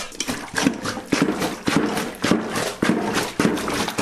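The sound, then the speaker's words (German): Laundry pounded with a washing plunger in a tub of water: steady, evenly spaced thuds about twice a second, each with a wet slosh and squelch, with no talking. “Jetzt kommt die Wäsche noch einmal in die Wanne und wird durchgestampft. Hier habt ihr einen Stampfer.”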